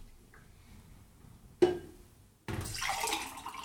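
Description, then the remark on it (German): Water is poured into glasses as people pour for each other, a short splash followed by a steady, bright stream of liquid running into a glass for about a second, with no talking. “Wir machen kein Pipi, sondern wir schütten uns gegenseitig Wasser in Gläser.”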